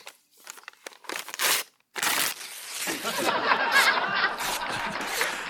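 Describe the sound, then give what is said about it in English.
A sheet of paper with something prepared to read for an occasion is crumpled up: a few sharp crinkling bursts, a brief pause, then a longer, steady stretch of dense crackling and rustling that gradually fades. “Now, I had something that I prepared to read here for this occasion. This piece of paper here, but...”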